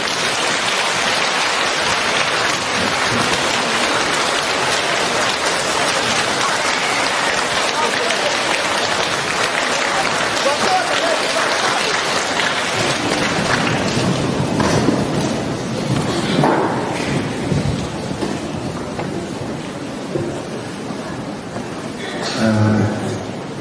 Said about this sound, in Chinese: 现在让我们用最热烈的掌声恭请我们尊敬的卢军宏台长为我们慈悲开示。